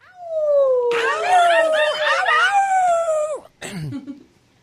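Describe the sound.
Several people in the studio of radio station WRIR 97.3 FM howl loudly like coyotes, long sliding wails overlapping with quick yipping warbles, then a brief pause and one final falling yelp that trails off.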